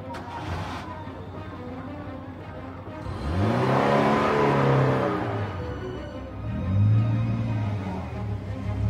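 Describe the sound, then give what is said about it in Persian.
The engine of a beat-up Pride car revs up and accelerates, its rising harmonic whine swelling loudly around the middle, dipping, then surging again with a second revving burst near the end. “هوشنگ شرافت سوار پراید درب و داغونش میشه.”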